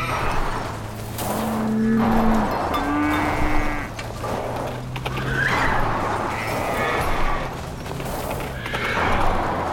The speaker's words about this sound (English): Worry about the cows first. Cows? Cows! Dodge cows and horses and sheep.